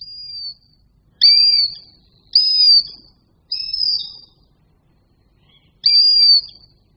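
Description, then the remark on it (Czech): A female bird of prey gives high, thin whistling begging calls as she flies up to a male bringing food during courtship, five drawn-out whines repeated at short intervals with brief pauses, clear against a quiet background. “Když samička vidí svého vyvoleného přilétat s potravou, tak k němu vyletí a začne žadonit poměrně vysokým a hvízdavým hlasem.”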